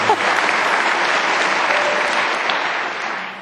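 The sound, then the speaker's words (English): A live audience claps steadily, a dense, continuous patter of many hands holding an even loudness throughout, without anyone speaking over it. “No, you don't have to clap. Don't clap.”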